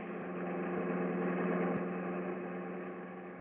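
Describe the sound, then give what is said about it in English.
A car engine runs steadily at a low idle-like hum, a continuous droning rumble with faint rhythmic vibration, moderately loud with no voices. “Stop this car.”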